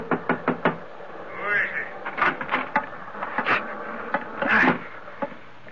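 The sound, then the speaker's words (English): Sharp knocks rap against the wooden chart room door on a ship's bridge deck in quick uneven bursts, pausing briefly between clusters, with a few brief vocal sounds mixed in among the blows. “What might you be doing forcing entry into my ship's chart room?”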